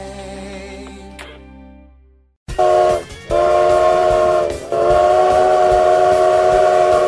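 A train whistle sounds with a steady, fading tone, then after a brief gap loud whistle blasts ring out repeatedly over the rumble of a passing train. No one speaks.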